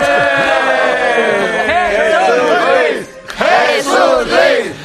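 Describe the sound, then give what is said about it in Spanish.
A studio audience erupts with applause and loud cheering, whoops and shouts rising and falling in pitch, dipping briefly before swelling again with renewed whistling and hollering. “Gracias por estos aplausos que tanto me estimulan,”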